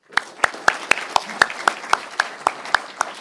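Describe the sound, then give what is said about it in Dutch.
Applause with crisp, evenly spaced claps, about a dozen in three seconds, keeping a steady rhythm, as if only a few people are clapping, right after a new member takes the oath at a municipal council swearing-in. “Applaus.”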